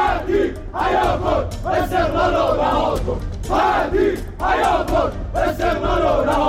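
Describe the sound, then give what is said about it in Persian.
Esteghlal football club fans, gathered in protest in front of the club building, chant slogans in unison against the club's chief executive and demand the resignation of Ali Khatib: loud rhythmic bursts of many voices rising and falling in repeated phrases with steady crowd noise underneath. “هواداران استقلال که به شرایط مدیریتی آبی پوشان اعتراض دارند، علیه مدیر عامل این باشگاه شعار دادند و خواهان استعفای علی خطی شدند.”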